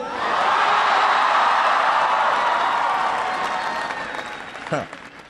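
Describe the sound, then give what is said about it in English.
A large audience at the home of the Sugar Bowl champion Wolverines applauds loudly with scattered cheers after a 'go Blue' line, a dense wash of clapping that holds steady for several seconds before gradually thinning out, with a brief whoop near the end. “It's always good to start with an easy applause line.”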